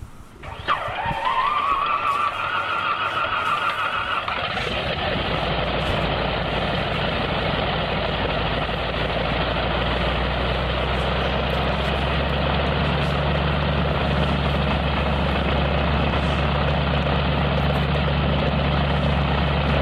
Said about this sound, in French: L'avion s'est dirigé ensuite vers la piste d'envol, puis a pris la direction d'Annecy pour une excursion de 3 heures autour du Mont Blanc. Le décollage d'un avion de ce type, ça donne à peu près ça.